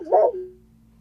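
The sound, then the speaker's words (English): A single short dog bark rings out clearly, then fades quickly into a quiet low hum. “Sorry about that. The Haitians haven't gotten to Schmolocaust yet because his dog's still alive”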